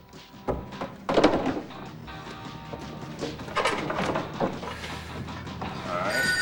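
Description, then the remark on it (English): In a skateboard workshop, a phone rings as its receiver is picked up and set back down with a couple of solid plastic thunks, followed by steady tonal ringing and low background clatter, moderately loud. “He picks up and replaces the receiver of the ringing phone.”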